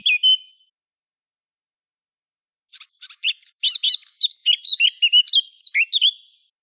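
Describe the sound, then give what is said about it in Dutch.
A Eurasian blackcap sings alone, clear: a brief opening note, a pause, then a rapid, varied warbling phrase of chattering and fluty whistled notes lasting several seconds. “We gaan nu nog even 1 keer luisteren naar het geluid van de zwartkop.”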